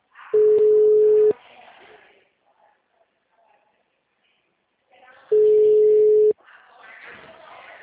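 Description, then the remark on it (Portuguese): A telephone ringback tone sounds twice as a phone call is placed again after a WhatsApp call failed, each a steady mid-pitched buzzing tone lasting about a second, separated by a long pause, with faint voices and background noise around them. “Tô ligando de novo.”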